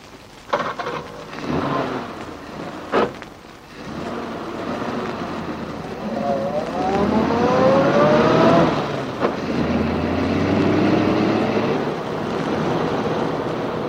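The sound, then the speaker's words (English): A parked car that thieves broke into is started: the engine turns over after a few sharp clunks, then revs up with a rising whine and settles into a steady, rumbling idle, with no talking. “Okay, Snow, start her up.”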